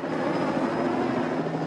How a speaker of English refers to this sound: watches the helicopter from her window